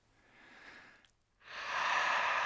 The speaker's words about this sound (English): Breathing.